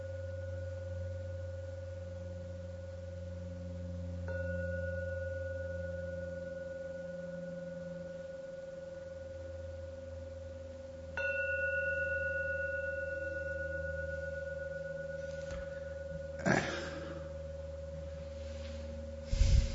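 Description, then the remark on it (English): A meditation gong is struck three times, several seconds apart, to bring listeners out of meditation. Each strike layers onto a steady, humming resonance that lingers. No one speaks. “I'm going to ring the gong 3 times.”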